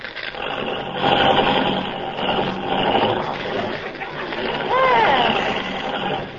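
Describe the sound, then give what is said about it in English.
A car engine is started again and runs loudly in a steady, rough drone, with a brief rising and falling whine near the end. “You know, this car doesn't work very well. Start it again.”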